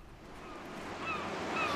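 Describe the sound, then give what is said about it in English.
Steady seaside ambience at Margate of surf washing in with a broad, rushing roar and gusts of wind, building slightly louder toward the end, with faint bird-like cries high above. “Oh, smell that air. Good for the soul, sea air.”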